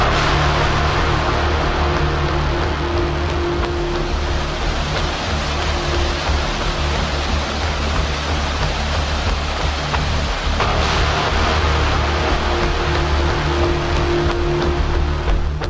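A loud, steady roar of rushing floodwater from the Garona river in the Vall d'Aran fills the scene, dense and unbroken, with low rumbling underneath of rocks colliding with each other in the torrent.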